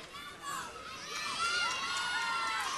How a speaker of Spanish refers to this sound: Por favor, un muy fuerte aplauso a Florencia y también a Isidora. Muy fuerte aplauso para ellas, por favor.